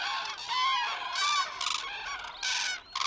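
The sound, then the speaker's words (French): A flock of cranes calling loudly together in the early morning as they feed and begin their journey north, a dense overlapping chorus of harsh, trumpeting cries that rises and falls in bursts without pause, continuous. “Le brouhaha de croassement que font de nombreuses grues peut s'entendre de très loin.”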